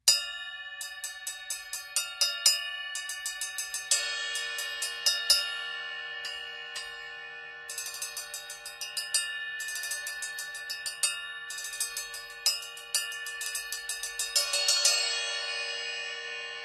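A 13-inch heavy bell cymbal, a small cymbal with a giant bell, struck repeatedly in a steady pattern, each hit ringing with a clear, sustained metallic ping. It is fairly loud, with no voices.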